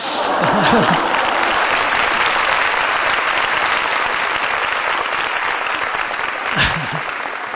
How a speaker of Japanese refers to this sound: 細々とした拍手